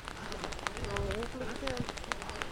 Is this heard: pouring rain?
yes